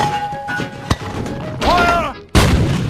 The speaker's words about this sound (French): C'est là que l'armée allemande, forte d'une progression éclair à travers les lignes franco-anglaises, installe une batterie de canons longue portée afin de bombarder la capitale française.